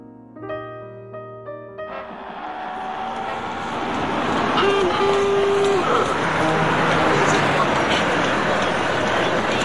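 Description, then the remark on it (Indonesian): Bustling afternoon ambience at the Lebak Bulus bus terminal, with passengers coming and going and hawkers selling goods and newspapers: a steady wash of crowd chatter and engine rumble swells in after a few brief tonal notes and stays dense and loud throughout. “Sore itu suasana terminal bis Lebak Bulus terlihat begitu ramai.”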